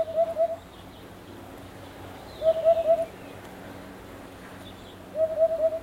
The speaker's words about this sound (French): Et là, on entend un chant d'oiseau. C'est la huppe. Donc c'est la huppe faciée. Donc effectivement, il y a un mâle qui est dans un des arbres fruitiers du voisin, donc à quelques mètres. Donc c'est pour ça qu'on l'entend assez bien.